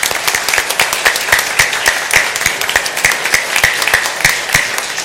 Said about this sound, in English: She was inducted as an honorary member into the state FCCLA, and she had some surprise guests that showed up for her in Columbus, and I think we all need to give her a round of applause.